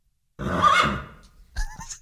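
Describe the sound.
A person imitates a horse whinny with a loud, wavering vocal neigh lasting about a second, followed by a shorter, higher squeal at the end.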